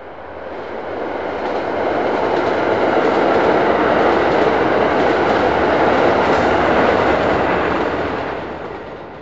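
A train rumbles along the rails, its dense, steady roar swelling up as it approaches, holding loud for several seconds, then fading away again. No one speaks.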